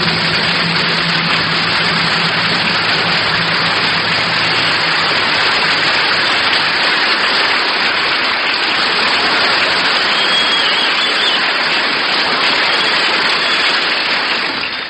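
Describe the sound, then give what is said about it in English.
A crowd applauding loudly and steadily for about fifteen seconds, a dense unbroken wash of clapping with no voices rising above it. The audience is rehearsing applause at the Georgia Auditorium in Vancouver, British Columbia, at a bandleader's event. “We're rehearsing applause here in Vancouver, B.C., everybody.”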